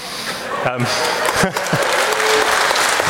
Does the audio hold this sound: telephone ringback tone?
no